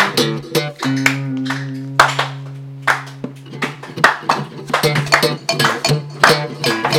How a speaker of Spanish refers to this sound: Bueno, vamos a darle un aplauso de cine americano. Vale, empiezas tú y yo al tercer aplauso digo, que tenemos que aplaudir.